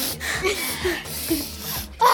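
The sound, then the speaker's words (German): Someone sniffs repeatedly, pulling air up through the nose in a few drawn-out, hissy breaths, with a faint low hum in the background. “Die Nase hochziehen.”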